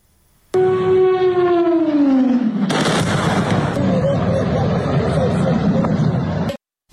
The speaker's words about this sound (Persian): صبح شنبه و ساعتی پس از چند انفجار بزرگ در برخی از مناطق کاراکاس که با صدای پرواز هواپیما و بالگرد نیز همراه بود، دولت ونزوئلا وضعیت فوق‌العاده اعلام کرد. بامداد شنبه به وقت محلی انفجارها در بندر کاراکاس برخی مناطق پایتخت را به لرزه درآورد.